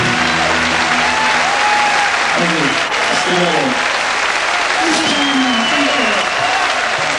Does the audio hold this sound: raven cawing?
no